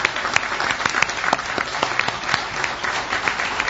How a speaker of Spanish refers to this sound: Seguramente eso se va a notar ahora en el aplauso.